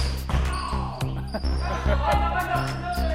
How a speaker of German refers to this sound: Dienstagnachmittag, 17 Uhr. Basketballtraining in einer Bayreuther Sporthalle. Kopf hoch, Kopf hoch! 18 Jungen zwischen 12 und 14 Jahren machen Tempo.